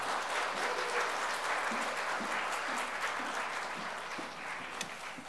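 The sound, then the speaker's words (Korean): A large crowd claps steadily for several seconds to welcome Pastor Park Jang, a dense, even wash of applause that holds its level throughout with no voices on top. “우리 박장 목사님 큰 박수를 맞이하겠습니다.”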